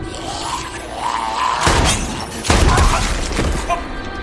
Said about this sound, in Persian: نه من باحال بود، شیشه رو با تفنگ زدی.